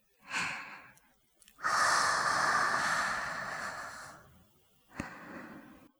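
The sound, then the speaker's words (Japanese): Soft, airy breaths blown onto the listener's skin to warm it, in three puffs: a short one, then a long, steady exhale lasting over two seconds, then a final brief breath. No speech, just a hushed, breathy whoosh. “あなたの肌にね、私の吐息を浸透させて、温める。”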